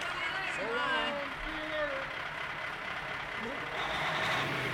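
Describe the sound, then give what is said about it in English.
A bus engine rumbles steadily and loudly as the vehicle pulls away, its noise filling the scene while faint voices call out over it. “Love that bus.”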